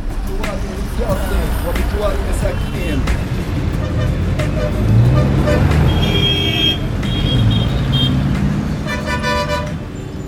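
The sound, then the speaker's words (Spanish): Dense rush-hour street traffic in Gaza rumbles steadily while several car horns honk, some in long sustained blasts, others in short repeated toots. Indistinct voices murmur in the busy background. “Este es uno de ellos, el de su intenso tráfico en las horas punta, retenciones y caos circulatorio en las principales calles en las que comparten carril coches de última generación y otros destartalados”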